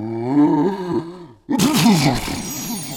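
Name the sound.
loud sneeze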